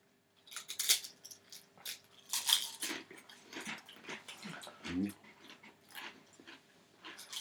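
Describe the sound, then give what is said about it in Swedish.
Crunchy chewing of potato chips during a chip taste test: repeated crisp, crackling bites in an uneven rhythm, fairly loud, with soft murmurs and small mouth noises between the crunches. “Det är bra krispigt ljud nu just när ni tuggar.”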